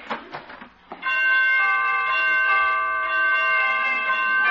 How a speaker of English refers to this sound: Well, pretty door chimes.